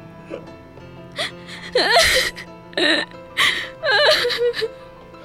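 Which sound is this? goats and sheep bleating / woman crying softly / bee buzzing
woman crying softly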